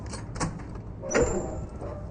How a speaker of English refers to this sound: Security access. Connects the old and new systems. He opens the door.